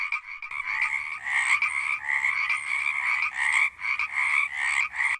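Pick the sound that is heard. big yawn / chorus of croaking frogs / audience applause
chorus of croaking frogs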